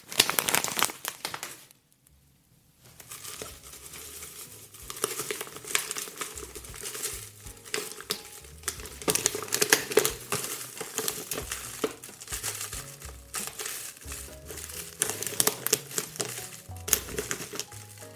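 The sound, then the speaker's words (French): Dry, brittle crinkling and rustling as 30 g of dried seaweed is weighed out and dropped into a mixing bowl (cul de poule), with irregular crackly bursts after a short pause near the start and no talking. “Je vais peser 30 g d'algues. Dans un cul de poule, bien sûr.”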